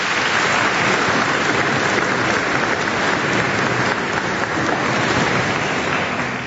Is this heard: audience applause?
yes